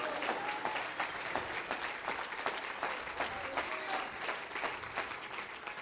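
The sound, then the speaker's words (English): An audience claps their hands during a church sermon in a steady, dense wash of applause that holds at an even, fairly loud level for several seconds, with no talking over it. “Oh, let's clap our hands into it.”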